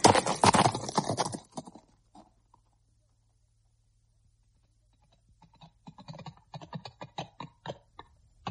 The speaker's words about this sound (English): Now, Starlight, the horse. Off we go.